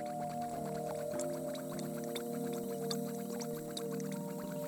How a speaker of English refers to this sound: Beside the table is a brazier with a cast iron kettle gently bubbling steam from its spout.